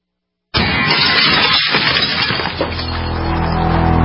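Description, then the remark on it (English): After a moment of silence, glass suddenly smashes with a loud, harsh crash during a break-in, shards clattering and splintering for a couple of seconds before the sound settles into a lingering ringing tone. “In the U.S., one in every 50 homes will have a break-in this year. Burglars call it smash and grab.”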